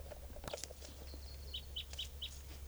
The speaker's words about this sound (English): That's a wild bird. And this is probably the mate of bird 649.